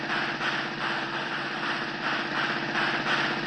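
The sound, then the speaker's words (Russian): A car engine runs with a steady, buzzy rumble as the vehicle pulls away, holding a fairly even loudness throughout with no voices. “Довольные сыщики схватили синий ящик и уселись в свой автомобиль.”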